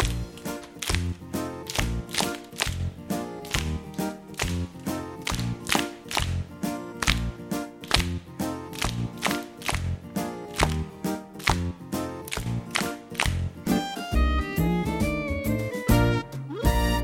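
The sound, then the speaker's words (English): Steady hand claps, about two per second, keep a brisk beat over lively music. The sharp slaps repeat evenly throughout, with no voices. “Now let's clap in time to the music.”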